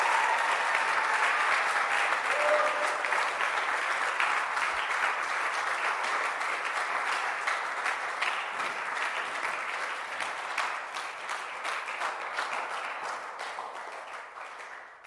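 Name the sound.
audience clapping hands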